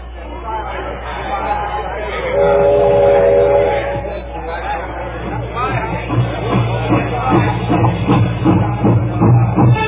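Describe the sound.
A passenger train rolls steadily along the rails with a continuous rumble and rhythmic clatter, a brief horn blast sounding early on, while muffled voices murmur in the background.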